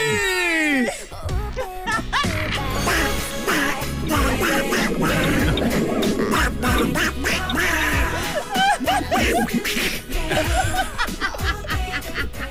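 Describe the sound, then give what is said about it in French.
Loud, nasal duck quacking runs nonstop, a rapid, jumbled string of harsh quacks, with a few laugh-like bursts mixed in. “J'ai une bulle d'air au cerveau à cause du canard.”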